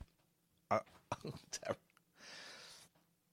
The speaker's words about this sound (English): Let me just get rid of these burps. Hang on a minute. Let me, just, could you bear with me while I get rid of these burps?